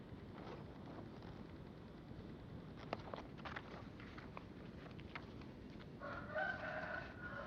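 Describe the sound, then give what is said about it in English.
A bird crows once near the end, a drawn-out call rising above a steady, noisy outdoor background with scattered clicks and rustles, fairly quiet overall. “The bird is liberated, but doesn't want to be.”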